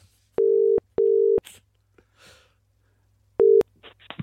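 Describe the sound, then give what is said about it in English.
A telephone ringback tone from an outgoing call to a man sounds in steady paired bursts, two close together, a pause with faint rustling, then another burst begins. The tone is clear and fairly loud, with no talking. “Right, let's phone him.”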